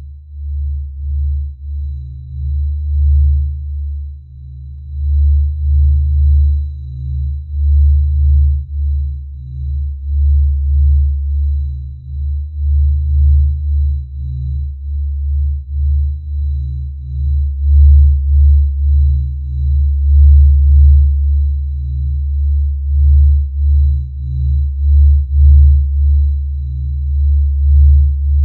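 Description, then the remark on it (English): Sonified sunspot radio signal data, several decades of sunspot data processed into audio files with the years speeded up: a deep, low rumbling drone that swells and dips in a steady, heartbeat-like pulse, fairly loud and continuous throughout with no talking. “After the radio signal data was processed into audio files and the years were speeded up, it sounds like a heartbeat.”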